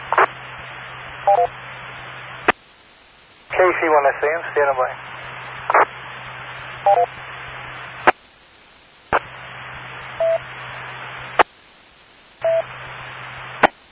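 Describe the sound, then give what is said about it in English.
Short electronic dialing beeps chirp a few times over a hissy, band-limited line, separated by abrupt gaps of silence, while a voice briefly talks in the middle. “I bet you got a phone call.”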